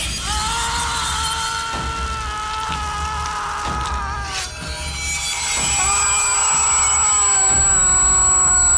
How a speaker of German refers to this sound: Ein Sinuston, der an einen Tinnitusklang erinnert. Sound und Musik lassen den Zuschauer die Materialität der Tatwaffe körperlich spüren.